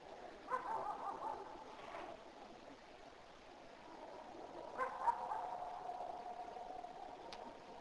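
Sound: neighbor's dog barking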